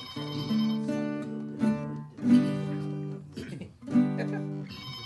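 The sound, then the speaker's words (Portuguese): A phone rings with a bright, tonal ringtone, repeating in steady bursts for several seconds. It is fairly loud, with no talking over it. “E o telefone tocando.”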